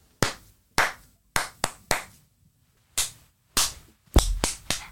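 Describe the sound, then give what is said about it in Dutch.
Sharp hand claps in a deliberate rhythmic pattern, about ten in all, with pauses between groups and a quick cluster of claps at the end, clapped for a listener to copy; no voices. “Ik klap straks iets en dan mag jij het nadoen.”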